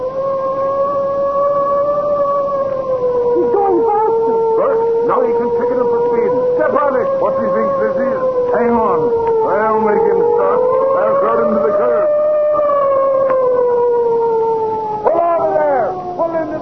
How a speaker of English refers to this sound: That spalpeen, is he trying to race with me? Give him the siren. That I will.